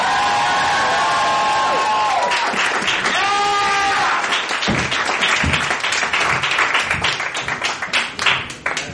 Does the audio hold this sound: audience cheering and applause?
yes